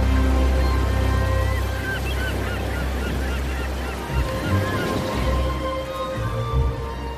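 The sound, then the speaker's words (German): Steady waves wash and break against the bow of the ship Nautilus in a continuous loud rush at sunrise, with birds honking and calling over the water throughout. “Wellen brachen sich am Bug der Nautilus.”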